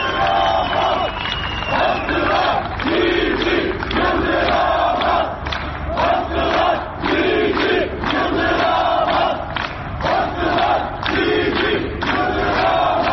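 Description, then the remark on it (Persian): A large crowd of protesters chants slogans in front of the Şirvan municipality building in Turkey's Kurdish region on Thursday morning, including 'The pressures will not bring us down', in a loud, steady rhythm, voices rising and falling together in repeated bursts for the whole stretch, with shouts mixed into the dense roar. “گروهی از معترضین از صبح پنجشنبه در مقابل شهرداری شهروان تجمع کرده بودند و شعار می‌دادند فشارها ما را از پای در نخواهد آورد.”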